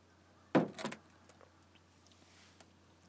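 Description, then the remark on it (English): A faint, steady low motor hum drones throughout, unchanging, heard outdoors at night, briefly overlaid near the start by a sharp clatter like a door sliding or shutting. “I can hear something like a motor. I don't know what that is. The motor of something.”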